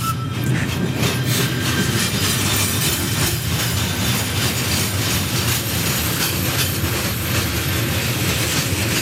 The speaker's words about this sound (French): Sa construction est liée à l'arrivée du chemin de fer dans la vallée des Ormonts et le train est du reste en train de passer à côté de nous.